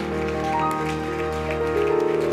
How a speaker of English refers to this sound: Let's clap hands for Jesus one more time.